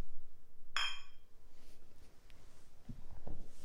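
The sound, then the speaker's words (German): A single bright glass clink as glasses are touched together in a toast rings out near the start and fades with a short shimmering decay, followed by a few dull low knocks against a quiet background. “Ach, alles gut. Dann Stößchen.”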